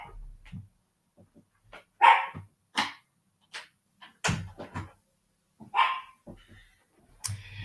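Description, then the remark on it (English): An excited dog that wants to go for a walk barks at surrounding noise in a rapid, irregular series of sharp, loud barks, with short pauses between bursts and no talking. “So he's just barking at all the noise.”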